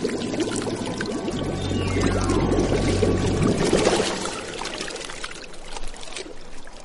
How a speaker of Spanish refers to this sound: Pero en eso, de la fuente junto a ella vio surgir extraños borbotones.